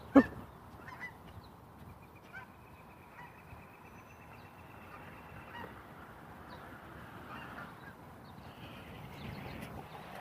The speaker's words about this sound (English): Right over my head. Geese. About 100 feet out, but they were all in line, so they weren't talking much.